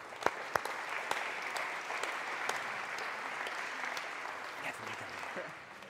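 An audience applauds steadily for about six seconds, a dense wash of hand claps with a few sharper individual claps standing out early on, then it tapers off at the end.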